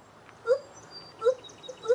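Gibbons, apes, singing a duet in the jungle, heard as three short whooping calls that swoop upward in pitch at an even pace like squealing sirens, with fainter higher tones in between, clear and without any talking.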